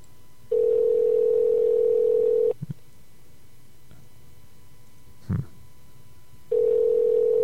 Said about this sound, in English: Let's go ahead and call Brandon live on the air.